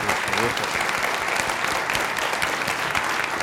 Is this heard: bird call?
no